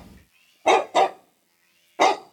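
A dog barks three times: two quick barks close together, a short pause, then a single bark. The barks are loud, with no talking.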